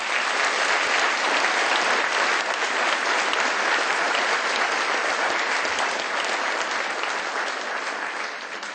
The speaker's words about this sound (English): That was truly out of this world. Thank you for sharing your celestial music with us. Please give another round of applause for this exceptional artist